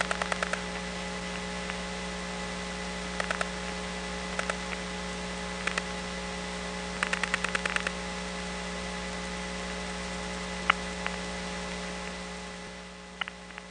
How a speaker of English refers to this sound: The recording played only once, and now we're just hearing the hum and the whine of the trunk. Occasionally we hear crosstalk from other customers dialing calls.